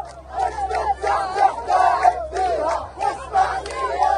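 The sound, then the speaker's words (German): A large crowd of Palestinians cheers, jumps and sings in the streets after Israel and Hamas signed a ceasefire agreement, many voices chanting together in loud rhythmic bursts over a steady low hum, with swelling and dipping waves of shouting. “Palästinenserinnen und Palästinenser springen durch die Straßen, jubeln, singen.”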